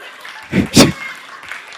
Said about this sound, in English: I don't need your pity claps, okay? Seriously, so shameful.